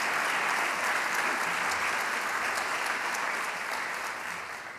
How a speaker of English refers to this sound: How about a nice round of applause for those today, past recipients, and future recipients.